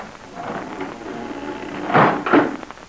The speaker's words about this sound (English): And so with the help of Jigger, one of Smiley's men, Pat and Terry were forced into the kitchen part of the tavern. There, a trap door in the floor was raised.